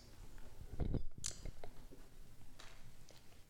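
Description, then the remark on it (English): Soft papery rustling and flicking, a cluster of quick page turns from several people at once as an audience follows a Bible reading during a church sermon, fairly quiet, with no voices over it. “I hear a lot of pages turn in, by the way.”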